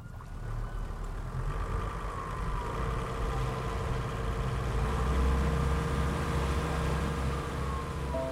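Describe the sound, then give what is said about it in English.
A motorboat, slowed on a lake, idles with a steady, low, throaty rumble throughout, while a faint siren-like tone wavers in the background. No one speaks. “I slowed the boat and looked back at the docks.”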